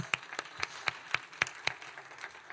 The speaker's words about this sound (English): And that's for God. That clap, that's for Him. It's directional. It has a direction. It goes up toward the Lord. It goes toward the Lord.